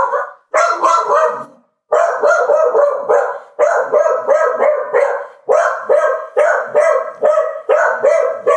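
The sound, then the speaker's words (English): A dog barks loudly and frantically at a delivery arriving, a rapid, nearly continuous string of sharp barks with only brief pauses, no talking alongside. “That's why the dog went nuts.”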